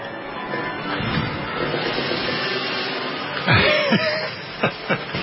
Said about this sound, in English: You're cueing appropriate music. The Texas Chainsaw Orchestra is chopping my chair down to little pieces.